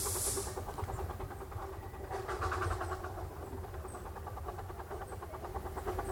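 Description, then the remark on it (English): A steam train chugs steadily as it departs, with a rhythmic pulsing beat, a loud burst of hissing steam at the start and continuous low rumbling engine noise throughout. “And with the release of steam, the train goes on.”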